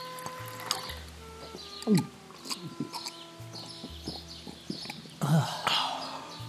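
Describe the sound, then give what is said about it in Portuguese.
Water pours from a large jug of fresh water in an uneven stream to give boys a drink, with gurgling splashes and a couple of louder glugs amid light clinking and background clatter. “Rapidamente, Stella busca um grande jarro de água fresca e dá de beber aos meninos.”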